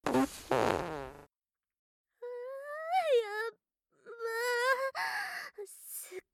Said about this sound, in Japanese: 早速おならが降りてきたかも。